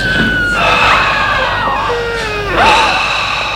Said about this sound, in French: Il entend des cris, des bruits bizarres.